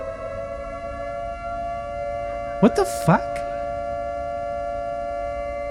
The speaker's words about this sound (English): What's going on? What's with all these sirens?